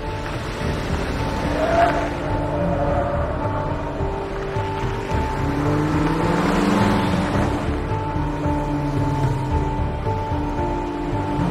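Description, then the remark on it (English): A car pulls away from across the street and another car makes a U-turn and follows; the engine hums steadily, its pitch rising and shifting as the vehicle accelerates and turns, with a broad rushing road noise throughout and no voices. “Judith's car pulls away. Haley makes a U-turn and follows.”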